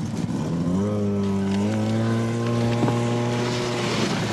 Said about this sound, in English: Snowmobiles pull up right next to the plane.